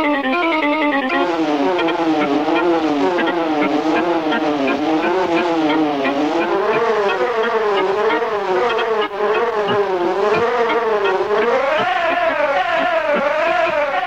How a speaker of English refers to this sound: So, what does the CMI do? Quite simply, it can manufacture or recreate any sound you can think of. You can, for example, record the buzz of a bee and then play it right along the CMI's keyboard.